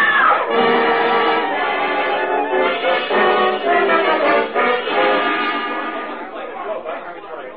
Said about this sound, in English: What happened? Somebody screamed.